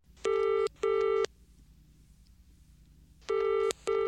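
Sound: telephone ringing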